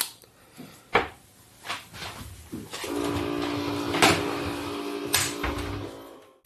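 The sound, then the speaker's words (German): A coffee machine runs a rinse cycle: a steady mechanical hum with a pump-like tonal drone for several seconds, punctuated by sharp clicks and clunks, then cuts off abruptly. No talking. “Meine Kaffeemaschine, die hat nämlich gerade gedacht, ich muss jetzt mal zwischenfunken, ich muss jetzt mal spülen und ausgehen.”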